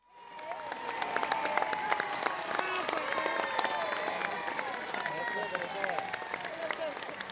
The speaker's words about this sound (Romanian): Uite, copiii vor să te aplaude și chiar o vor face.